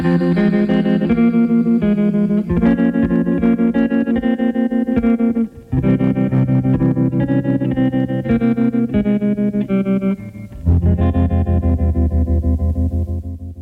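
A pop song recording plays at a steady, loud level, its instrumental passage full of effect-laden, shimmering tones. Two brief dips break it before the music swells back in. No one speaks.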